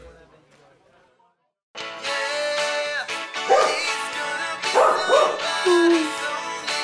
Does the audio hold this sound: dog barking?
yes